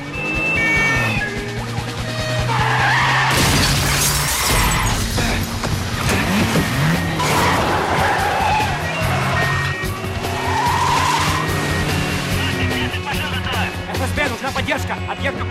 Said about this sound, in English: Bourne drives expertly at incredible speed, scraping through impossibly narrow gaps